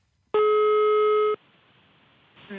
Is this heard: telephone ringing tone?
yes